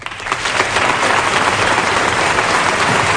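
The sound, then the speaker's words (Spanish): Sustained applause from an audience at a classical music concert, dense clapping filling the whole stretch at a steady, fairly loud level with no voices breaking through. “Y bueno, a ver, por favor, ahora no tocaba aplaudir. Ahora no nos tocan los aplausos.”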